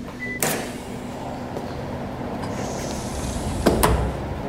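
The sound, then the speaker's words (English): The heavy, highly insulated door, about 3 inches thick, of a climate chamber in a thermal ergonomics laboratory unlatches with a sharp click, then swings open with a muffled thud and a brief rattle near the end, all over a steady low mechanical hum. “So that's on the door, and the door is about 3 inches thick and has high levels of insulation to ensure that the heat that we're generating inside of the chamber doesn't leak”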